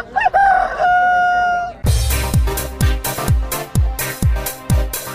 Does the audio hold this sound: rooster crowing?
yes